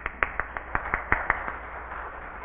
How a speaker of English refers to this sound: Applause.